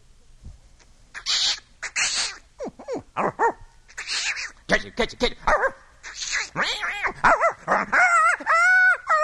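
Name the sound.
dog barking and whimpering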